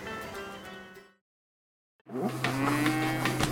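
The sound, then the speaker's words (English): A cow moos loudly, a long low drawn-out call, then a short silence before a second, louder and rougher moo follows. “I'm Inga, a fourth generation dairy farmer, milking cows and making cheese on my small farm in Wisconsin.”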